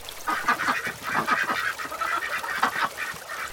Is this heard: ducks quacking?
yes